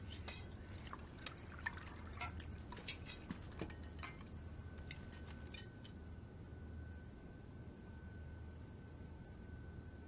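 Liquid pours into a glass with bubbly splashing and gurgling for about six seconds, then trails off into quiet room tone. The pour is fairly soft.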